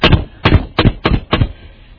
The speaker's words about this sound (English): You see, when someone knocks on the door, they want to be where you are at.